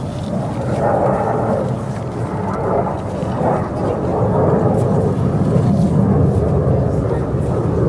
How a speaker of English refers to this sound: Jet going overhead. It's very loud.